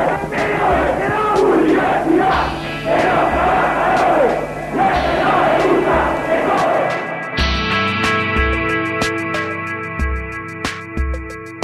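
A protest crowd cheers and chants loudly over a steady, pounding drumbeat, applauding students and workers fighting against austerity cuts, then the noise gives way to continued rhythmic drumming with sustained brassy tones.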